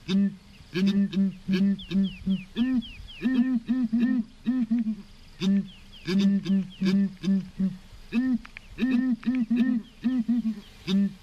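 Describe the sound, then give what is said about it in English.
Southern ground hornbills, savanna birds called dendera in Shona in Zimbabwe, call back and forth to each other in deep, booming hoots, repeated in steady rhythmic bursts. The calls are loud, with faint higher chirps in the background. “Have you ever seen, or more importantly, heard a ground hornbill? I hadn't until I met Suleiman Chimbetu at Cockpit Studio in Harare. It's a kind of bird that lives in savanna regions.”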